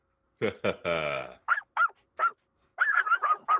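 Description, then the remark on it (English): Voices imitate barking dogs: two short yelps, a drawn-out howl, a few spaced barks, then a rapid burst of yips, all loud. “We got all the dogs in the house tonight.”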